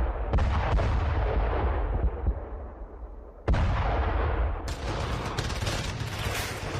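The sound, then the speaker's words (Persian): Loud cannon blasts boom out three times in Kabul in the early morning, each crack trailing off slowly, over a heavy, constant low rumble of roaring tank engines as a military coup against Mohammad Daoud Khan begins. No voices are heard. “اما صبحگاه هفتم ثور سال 1357 هجری خورشیدی، مردم کابل با صدای توپ و غرش تانک ها از خواب بیدار شدند.”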